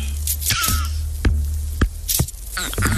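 Music played on vegetable instruments: sharp, irregular knocks and squelchy hits mixed with high, squeaky whistling tones over a steady low hum, sounding strange and somewhat chaotic, with no voices.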